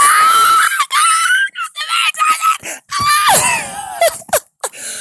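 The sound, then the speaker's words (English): A loud, high-pitched human scream of excitement on reaching day 30, drawn out in several breathy bursts with brief gaps, filling the whole moment. “I promised I was not going to scream today, but I cannot help it!”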